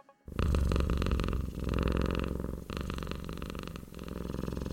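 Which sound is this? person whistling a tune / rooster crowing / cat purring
cat purring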